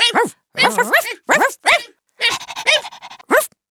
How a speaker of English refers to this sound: The puppies are barking. They're very noisy.